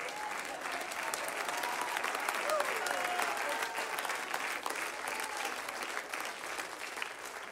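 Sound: church audience applauding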